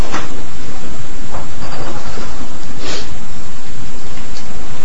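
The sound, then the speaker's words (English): Loud, steady rumble of a subway train with a couple of brief hissing bursts as the doors slide shut, with no one speaking. “And gets everybody's attention, so they're staying clear of the closing doors.”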